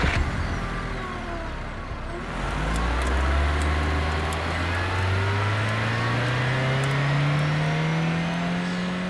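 A car engine accelerates, its low hum climbing steadily in pitch over several seconds while the motor stays loud and continuous. No one speaks.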